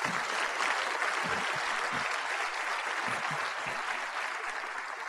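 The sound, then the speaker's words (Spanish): Sustained audience applause at a seminar, a dense wash of many hands clapping at a steady, fairly loud level throughout, with a few faint voices mixed underneath; the attendees applaud themselves for being there. “Dense un fuerte aplauso por estar aquí.”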